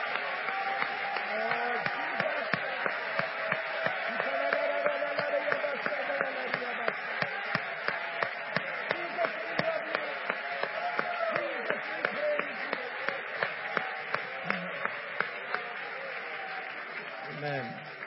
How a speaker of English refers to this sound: For about 10 seconds, let's give the Lord a great big hand clap of praise.